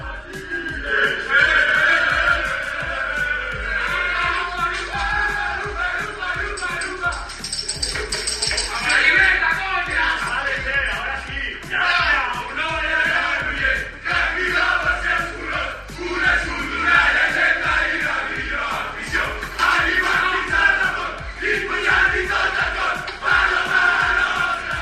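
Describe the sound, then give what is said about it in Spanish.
The Balonmano Granollers handball team shouts and celebrates an upset win in the arena in Flensburg, Germany, the shouts led by captain Antonio García. Many voices yell and cheer together, loud and continuous for the whole stretch, with overlapping cries and a reverberant, crowded feel. “El balonmano Granollers, encabezado esos gritos por su capitán Antonio García, quien fuera que también jugador de la Demar.”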